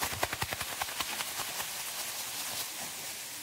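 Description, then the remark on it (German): An audience rustles and crinkles plastic garbage bags to make a storm in a participatory story, starting as a series of sharp crackling bursts and swelling into a steady, dense hiss like wind and rain. “Diese Mülltüte nehmt ihr in die Hand, wenn ihr das Wort Sturm hört.”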